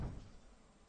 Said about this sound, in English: You didn't have to throw the door open like Kramer.